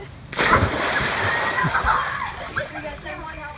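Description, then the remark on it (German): A sudden loud splash as someone jumps into a pool, followed by several seconds of churning, sloshing water with indistinct voices underneath. “Und was ein bisschen anders ist, ist, dass wir wahrscheinlich vorher in den Pool springen werden.”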